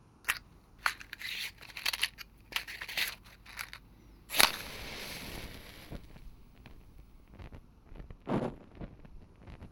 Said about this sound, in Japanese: では早速、暖炉の火を灯してみてください。薪はすでに組んでおりますので、あとはこのマッチで着火剤に火をつけるだけです。